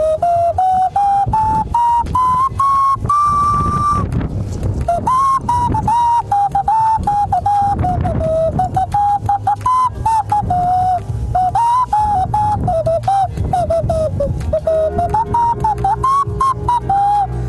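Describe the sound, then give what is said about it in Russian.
A clay whistle played by a novice gives a wobbly, continuous melody, its pure tone sliding between notes with a brief pause near the start, loud, over a low background rumble. “Как красиво и мелодично звучит глиняная свистулька у мастера, так же нелепо и смешно у меня, человека, на ухе у которого хорошенько потоптался медведь.”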